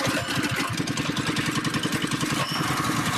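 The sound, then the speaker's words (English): The small gasoline engine of a tailgating cart starts and chugs at a rough, steady idle, its rapid low putter running loud and unbroken with a rattly, mower-like tone and no voices. “Wow, like someone's got a 1960 lawnmower.”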